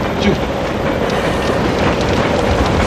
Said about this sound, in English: The train is moving.